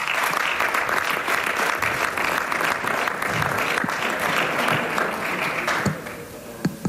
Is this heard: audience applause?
yes